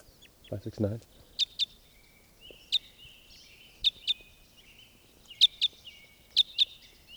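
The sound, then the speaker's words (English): Sharp, high-pitched chirps from a new type 5 bird calling in flight ring out in quick pairs, repeating about five times over a faint steady high buzz, after a brief low voice-like murmur at the start. “This is a new bird. In flight, one call.”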